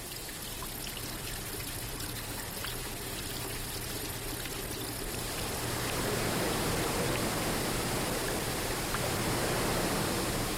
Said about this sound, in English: Andy says there's no escaping the sounds and smells of falling water.